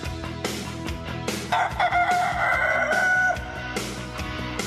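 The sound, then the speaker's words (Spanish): A rooster lets out one long, loud cock-a-doodle-doo lasting about two seconds, rising over a steady backdrop of rhythmic music with sharp percussive hits. “Es miércoles y el gallo lo sabe, así que súbanle, señores.”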